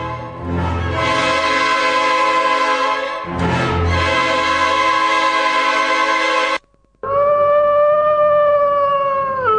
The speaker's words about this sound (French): on dirait que les chiens sont devenus fous. Tu les entends hurler? Patron, je les ai bien attachés, mais...